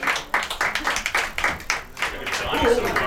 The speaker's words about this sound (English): Round of applause.